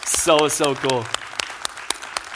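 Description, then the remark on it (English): A crowd breaks into applause, with a few high whooping cheers over the clapping at first, then the claps thin out into scattered, sharp individual hits. “Can we just get a hand clap?”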